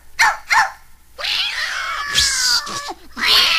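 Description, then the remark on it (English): Cats yowl and screech loudly in a frantic burst, with two short cries followed by sustained, overlapping caterwauling, agitated as a dog named Lady chases them away from a canary's cage. “And while Lady was chasing the cats away from the canary”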